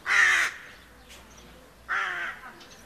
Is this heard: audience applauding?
no